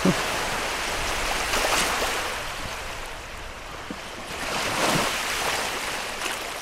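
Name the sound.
ocean waves crashing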